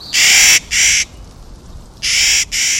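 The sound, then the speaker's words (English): Harsh, gruff Clark's Nutcracker calls ring out in two pairs of grating squawks, loud, with a short quiet gap between the pairs and no talking. “These gruff calls belong to a bird discovered 200 years ago near present-day Kamiyai, Idaho.”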